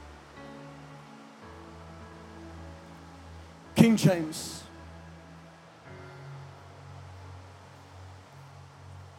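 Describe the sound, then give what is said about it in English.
Steady, hissing rainfall fills the whole recording at a moderate level, with a man preaching a sermon over it and a brief, louder burst of sound partway through. “And I'll talk slow and not a lot because of the rain.”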